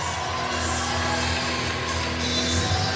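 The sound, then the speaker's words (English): Steady, dense crowd murmur as fans file in at the Island arena before tip-off of a Stony Brook Seawolves versus American basketball game, a continuous wash of many voices with occasional faint shouts, no single voice standing out. “Crowd still filing in here at the island.”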